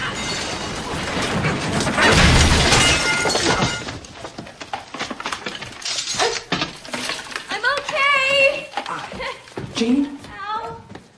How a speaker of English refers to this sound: One of the stairs breaks. Oops! She trips and the whole staircase collapses, sending her crashing through it.